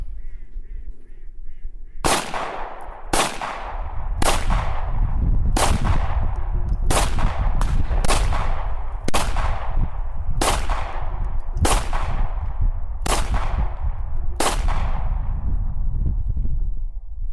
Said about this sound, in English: I record a clip of a family friend firing his 9mm on an outdoor range